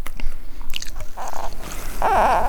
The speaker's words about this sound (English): We kicked off our 40 days and 40 nights by crunching on hawthorn leaves at Shannon Pot.